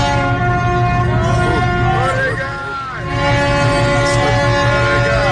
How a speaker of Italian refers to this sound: La nave cargo Ever Given è a galla, si muove, queste sono le sirene a festa.